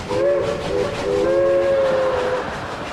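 A train rumbles past while its whistle sounds loudly in two long, steady blasts, the second held longer, over a constant broad mechanical roar.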